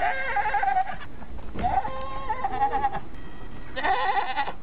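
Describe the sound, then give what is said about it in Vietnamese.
A female goat in the back of a vehicle bleats three times in quick succession, each call a loud, quavering cry, with a steady low background hum and no talking. “Hiện lộ bên trong thật là một con dê cái đang chỉ đuôi về phía chúng tôi.”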